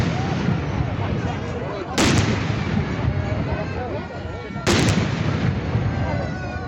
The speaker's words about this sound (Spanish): Cañonazos como estos recibieron a las 10:30 de la mañana al rey en el Palacio Real de Aranjuez.